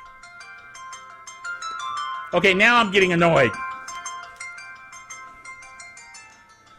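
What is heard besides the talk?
phone ringtone ringing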